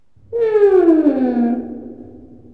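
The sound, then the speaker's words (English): A teddy bear toy lets out a single drawn-out moaning tone that slides downward in pitch for about a second, clear, then fades into a soft breathy tail. “Teddy bear.”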